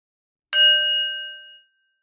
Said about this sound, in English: We'll start with a bell.